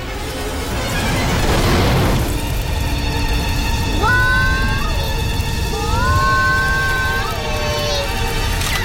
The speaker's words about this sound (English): His alert signal flashes as an avalanche of cloud, dust and debris thunders towards them. He tries to warn her, but she just whips out her gun. He disappears into his body cube as the avalanche reaches them.